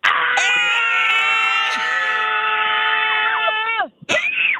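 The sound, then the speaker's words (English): Several voices scream together, after a count of three, to release stress in one long, loud, sustained yell lasting nearly four seconds, then break off abruptly, followed by a brief burst of talking and laughter. “and once we scream, it's going to be gone.”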